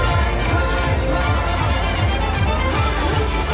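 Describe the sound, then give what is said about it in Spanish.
A large crowd in Tokyo, Japan, celebrating the New Year 2026 roars and cheers in a dense, continuous wash of voices, steady and loud throughout, with a faint rhythmic low thumping running underneath. “Así es como lo están celebrando en Tokio”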